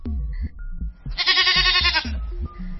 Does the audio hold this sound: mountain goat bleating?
yes